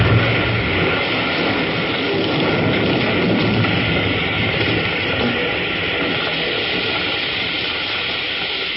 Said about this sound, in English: Come on, that train's right on top of us.